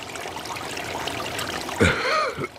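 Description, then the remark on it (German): A steady babbling brook, water trickling and bubbling continuously at moderate volume, with a voice briefly starting over it near the end. “Sie machten sich auf ihren Weg und kamen an den Bach.”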